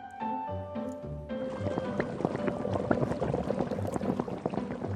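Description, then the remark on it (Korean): A pot of soybean paste stew (doenjang jjigae) with rib bones in it bubbles vigorously, a dense, continuous stream of small pops and gurgles, following a brief moment of soft tonal sound at the start. “마무리는 갈빗대가 들어간 보글보글 된장찌개와 쌀밥으로.”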